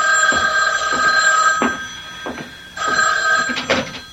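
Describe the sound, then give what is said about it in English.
An old-style telephone bell rings loudly in two bursts, a rapid metallic jangle with a short pause between rings, with no voices over it. “But before I could follow the thought through, the phone rang.”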